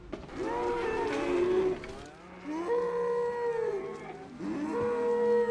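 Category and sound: animal, cow mooing loudly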